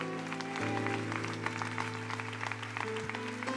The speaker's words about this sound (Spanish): Demos un aplauso a nuestro Rey.